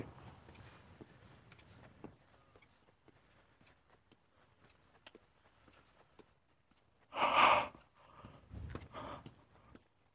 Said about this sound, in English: Yawning. Went to bed early last night, too.